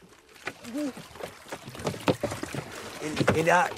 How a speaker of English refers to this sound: Rat helps Mole into the boat and he tumbles in. He tries desperately to get his balance as the boat rocks from side to side.